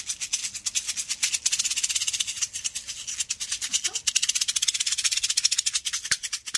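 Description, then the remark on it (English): A musician plays a plastic aspirin bottle as an impromptu instrument during an interview, squeezing and rattling it to give a steady stream of quick, crisp clicks and crackles for several seconds, with pills shaking inside and no voices. “A bottle of aspirin. Right, but if you squeeze it.”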